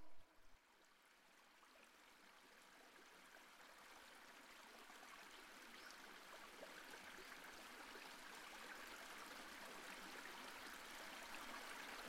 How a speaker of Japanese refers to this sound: ほら、シュワシュワシュワシュワ、水の音が聞こえてまいりましたね。